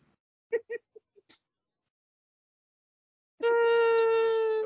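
dog howling

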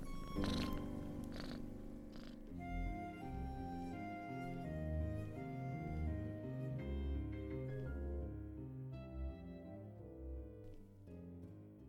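cat purring

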